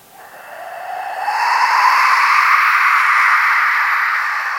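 A wind machine, a musical instrument, being cranked: a breathy, hissing whoosh that swells from quiet to loud over the first second or so, its pitch sweeping upward, then holds as a steady roar with no talking.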